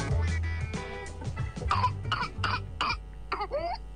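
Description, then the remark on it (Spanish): A rapid series of harsh coughs in a relentless whooping cough fit, ending with a high, rising gasping whoop as breath is drawn back in. “Se caracteriza por una tos intensa que puede durar semanas y, en casos graves, causar neumonía, convulsiones o incluso la muerte.”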